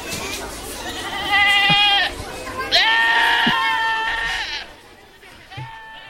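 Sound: goats yelling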